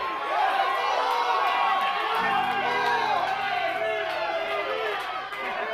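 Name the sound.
audience cheering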